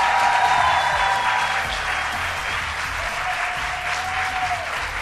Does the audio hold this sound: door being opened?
no